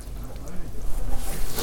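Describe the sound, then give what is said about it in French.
A stick squelches and stirs through soft pond mud, with wet sucking sounds and small bubbling gurgles rising, while a voice murmurs faintly underneath. “T'aimes bien attraper la vase avec le bâton quoi. Mais souvent je mets là où t'es.”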